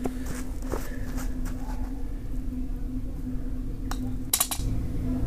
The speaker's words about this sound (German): Das schöne Geräusch des Lochs und der Fahne.